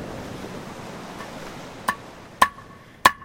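Three sharp metallic hammer strikes as a new unak, or seal hook, is hammered, each leaving a brief bright ring, land at an uneven, slow pace over a steady wash of wind and surf, with no one speaking.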